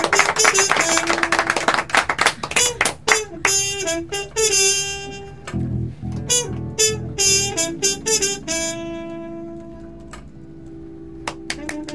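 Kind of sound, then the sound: crowd, applause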